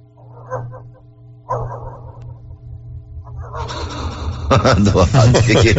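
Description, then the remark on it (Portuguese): Someone imitates a dog barking about 2 kilometres away in the small hours of the night: two short, muffled yaps spaced about a second apart, then louder overlapping voices and commotion take over. “Faz um cachorro pra ele, 2 quilômetros de distância de madrugada aí.”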